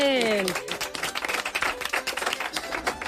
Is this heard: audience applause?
yes